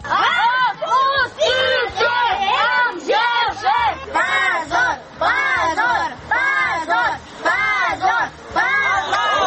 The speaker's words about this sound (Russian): После суда дети кричали полиции, чтобы силовики отпустили их отцов.